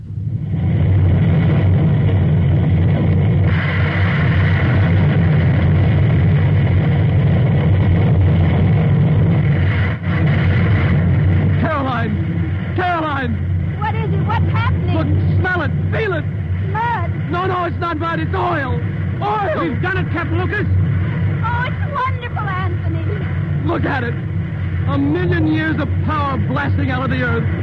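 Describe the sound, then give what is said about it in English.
The Spindletop oil well gusher in Texas erupts again from gas pressure, a loud, steady roaring rush and deep rumble that never lets up, while excited voices shout over it in the second half. “She's going to blow again.”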